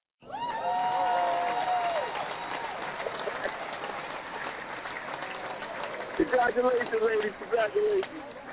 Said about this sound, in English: I like to give those two a great old happy clap for lying. Ain't nothing like it.